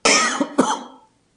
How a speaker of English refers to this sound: Oh, I did pick up a little bit of a cough, so I was worried about that, so I got my water here.